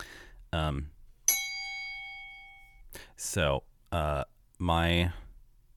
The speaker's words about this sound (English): Let me ding the bell. Ding the bell.